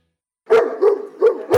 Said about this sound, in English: Of course, you heard the dogs, so you know it's the Education Watchdog, same in the Union Edge.